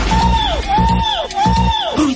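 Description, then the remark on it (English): A singer lets out three loud, screaming whoops, each sustained and then sliding downward in pitch, repeated over the thumping, rhythmic music backing of one of his songs. “if you hear that screaming out on top of one of his songs.”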